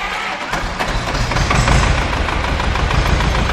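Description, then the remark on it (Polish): An old Ursus C330 tractor's diesel engine idles steadily, its low rumble dense and continuous with a slight rhythmic knock, holding at a fairly loud, even level throughout with no talking. “To jest Ursus C330. To jest taka prosta konstrukcja, jak najprostsza.”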